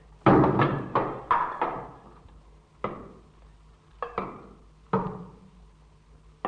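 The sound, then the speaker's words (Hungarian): Heavy knocking on a wall by someone trapped after a collapse, knocking with full strength toward the sound of voices: a quick burst of four loud thuds, then slower, irregular single and double blows with short pauses between them, and no voices. “Merre kopogjak? A hangok felé. Teljes erőmmel, ha összeesem is.”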